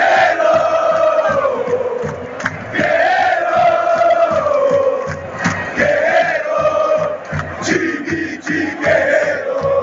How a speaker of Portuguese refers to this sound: Sim, o famoso grito de torcida com esse termo foi criado pelos São Paulinos em 2005. Outras torcidas até copiaram anos depois e vamos ouvir os campeões comemorando aquele título estadual.